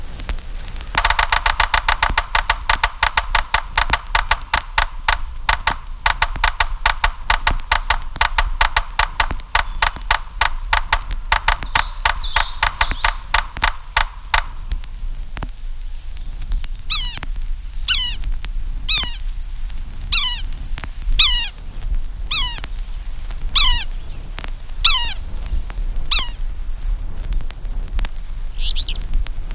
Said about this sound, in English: Morse code of the yellow-bellied sapsucker is less regular than the drum of other woodpeckers, and its call note is harsh.